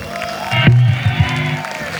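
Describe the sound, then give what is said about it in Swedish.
An audience at a live music gig applauds and cheers together before the evening's last song, a steady, loud wash of clapping, with a few raised voices and whoops briefly rising above the noise. “Det är de stora applåd.”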